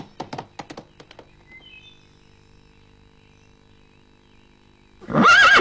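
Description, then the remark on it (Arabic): A quick burst of thumping knocks, like hooves, fades into near silence before Aseel, a fast horse, lets out a loud, shrill neigh at the very end. “كان الحصان أصيل حصانا سريعا كسرعة الريح المنطلقة.”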